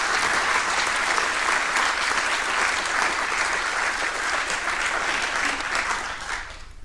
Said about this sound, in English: So a big applause for both of them and for the rest of the Orga team.